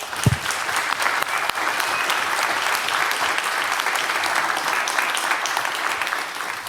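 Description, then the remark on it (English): A crowd applauds steadily for several seconds, a dense, even wash of many hands clapping at a fairly loud level with no voices rising above it, in thanks to the Hochschule Bonn-Rhein-Sieg for hosting the yearly event. “Thank you very much for hosting us every year. Big applause.”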